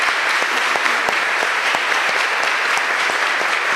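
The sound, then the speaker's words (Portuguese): An audience applauds the word of God after a Gospel reading, a dense wash of many hands clapping at an even, sustained loudness throughout, with no voices heard over it. “Vamos aplaudir bem forte a palavra de Deus, filhos.”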